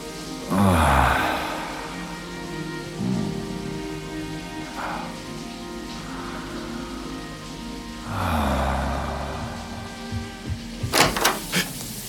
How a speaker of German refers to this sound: Als ich meinen Kopf unter den Wasserstrahl halte, gibt es plötzlich nur noch diesen einen Moment. Das Wasser trifft genau mit dem richtigen Druck auf meine Schulter und ich atme ein paar Mal tief ein und aus.